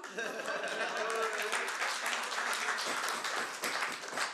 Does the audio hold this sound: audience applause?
yes